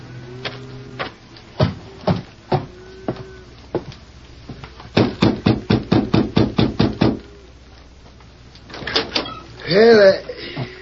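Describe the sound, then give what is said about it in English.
Knocking on a wooden door of the Adams Ranch House: a few scattered knocks, then a quick, steady run of about ten sharp raps, followed by a short burst of voice. “I'll have to knock on a door.”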